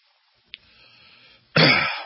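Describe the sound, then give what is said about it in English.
A brief click, then a quiet rasping breath leading into one loud, harsh cough or throat-clearing burst. No one speaks. “The whole time I've been on for an hour, I've just been trying to not cough.”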